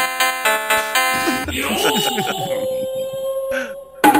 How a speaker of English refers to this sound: I've got a really short digital bell.